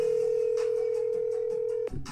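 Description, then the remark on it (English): A steady telephone dial tone hums for nearly two seconds as a phone call is placed, with faint dialing blips ticking along underneath before the tone cuts off abruptly. No one speaks. “Let's get him on the phone and to see what he's talking about this week.”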